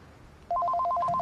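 A telephone rings with a rapid warbling trill, two alternating mid-pitched tones switching quickly back and forth, loud and steady after a short quiet start.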